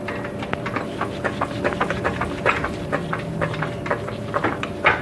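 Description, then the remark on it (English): A car jack being positioned under a car to lift it off jack stands: an irregular series of sharp metallic clicks and clanks over a steady low hum, with no one talking. “Position the jack.”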